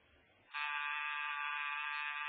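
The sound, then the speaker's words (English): A loud, steady electric front door buzzer drones continuously for nearly two seconds after a brief quiet lead-in, a harsh sustained tone. “Rocket, was that the front door buzzer?”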